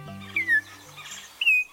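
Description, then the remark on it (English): Two clear, rich whistled notes of an Altamira oriole, each sliding slightly downward, separated by a pause, heard over a low steady hum in the background, from a wooded thicket along the lower Rio Grande River. “From a wooded thicket along the lower Rio Grande River comes a rich, whistled song. Your eye catches a flash of brilliant orange. There's the singer, an Altamira oriole, a dashing bird.”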